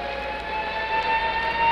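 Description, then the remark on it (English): An air raid siren holds a steady, piercing wail over a continuous rumble of street traffic, at a spot within sight of the statue of Lord Nelson on top of its big column. No one speaks. “I'll just let you listen to the traffic and the sound of the siren for a moment.”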